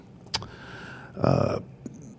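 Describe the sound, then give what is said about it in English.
A voice imitates an electric bus, a short buzzy, whining hum lasting under half a second, framed by a couple of soft mouth clicks, moderately loud. “I think it sounds like a TV turning on when the e-bus is running next to you.”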